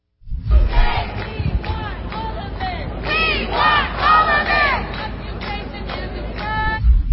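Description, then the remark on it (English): A large crowd of Columbia protesters chants slogans in unison, including shouts in support of terror groups such as "we are Hamas", loud shouted phrases rising and falling in a repeating rhythm over a steady bed of crowd noise and low rumble. “Columbia protesters were also openly shouting in support of terror groups.”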